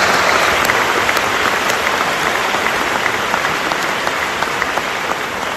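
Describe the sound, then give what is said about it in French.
Sustained applause from a large audience, a dense, steady patter of many hands clapping at even loudness throughout, with no voices rising above it. “Beaucoup sont présents ce soir, je vous demande de les applaudir s'il vous plaît.”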